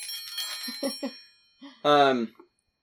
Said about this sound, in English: I like the little celebratory bells.